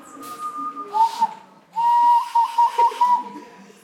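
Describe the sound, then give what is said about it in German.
A person whistles through pursed lips: a short steady tone, a brief pause, then a longer wavering whistle with a few quick pulsing notes, fairly loud with a faint breathy hiss. “Du musst nur deine Lippen spitzen und durchpfeifen.”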